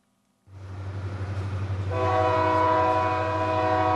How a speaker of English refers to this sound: Recently, I recorded this coal train leaving a coal mine destined for some power plants. It was a long train, and across the country, hundreds like it run constantly.